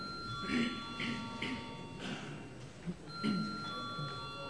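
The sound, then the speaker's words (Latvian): A steady electric bell, a parliament voting call bell, rings continuously for several seconds before a vote, a sustained high tone over the low murmur and shuffling of a crowd. “Lūdzu zvanu.”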